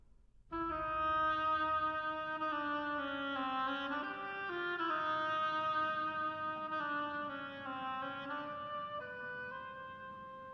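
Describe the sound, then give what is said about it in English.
A reedy oboe plays the slow duck theme from Peter and the Wolf, a loud, continuous melody of held, nasal notes that step gently up and down in a middle register, with no voices. “The duck by an oboe.”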